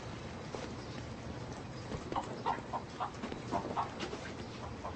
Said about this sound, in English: Well, I'm putting these chickens in crates and stacking them right here.